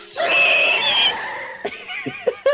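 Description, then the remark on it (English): A person vocally imitates a shrill, sustained screech lasting about a second, loud, followed by a few short breathy bursts that sound like laughter. “Because it said she screeched, so it's, you know.”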